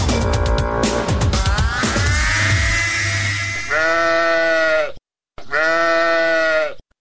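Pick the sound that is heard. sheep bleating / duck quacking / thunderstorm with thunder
sheep bleating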